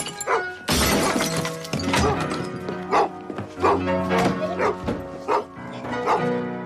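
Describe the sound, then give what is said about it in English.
A man smashes empty glasses and beer bottles with a wine bottle, a rapid, uneven series of loud crashes, each followed by ringing, tinkling shards of glass. “Grabbing a wine bottle, he smashes empty glasses and beer bottles with it.”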